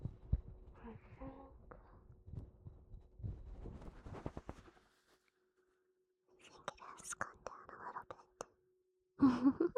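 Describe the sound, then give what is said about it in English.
Muffled low thumps of a heartbeat as if heard through a stethoscope, pulsing steadily for a few seconds before quiet whispering takes over. “Is your heart beating a little slower now?”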